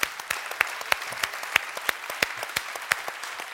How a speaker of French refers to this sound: Ouais, on peut les applaudir d'ailleurs.